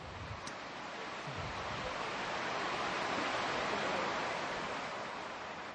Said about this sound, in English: It's raining.